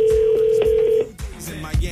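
telephone number being dialed

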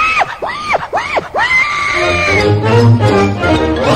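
pig grunting

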